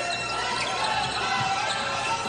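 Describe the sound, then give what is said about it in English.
A student fan shrieks during a Northwestern home basketball game in a 7,500-seat gym, a high, shrill voice held over a steady wash of crowd noise, with the dull thumps of the game underneath. “Do you hear that shrieking noise in the background?”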